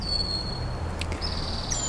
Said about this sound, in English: We can hear the alternating alarm whistles and check calls of the red-winged blackbird as those calls set the tempo for a calm afternoon. Bulrushes rustle in gusts of wind.